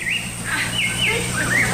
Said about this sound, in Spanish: Bueno, ese pajarito está cantando también para ti, así como los cantantes cantan para ti, los cantantes de Radio Ombligo, también los pajaritos.